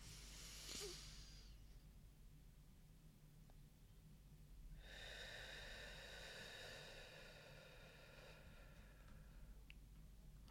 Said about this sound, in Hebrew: עכשיו אחרי שהתבוננתם, קחו נשימה אחת ארוכה דרך האף, תנו לה לרדת עמוק עד הבטן ותוציאו לאט לאט את האוויר דרך הפה. ועוד נשימה עמוקה.